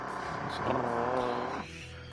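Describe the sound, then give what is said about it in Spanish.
A carpenter's power drill runs with a steady, droning motor whine that rises slightly in the middle, then drops to a lower, quieter hum for the last half second. “Que si puede de un esta ahorita no usar la máquina esta de taladrar.”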